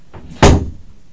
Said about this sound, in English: Shutting the door.